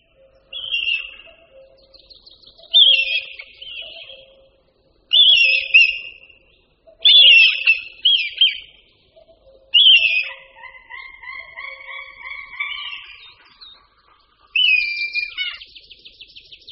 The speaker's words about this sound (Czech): Slyšeli jsme melodické pískání luňáků červených, dvou jedinců, samce a samice. V dálce se nám do toho objevilo volání orla mořského.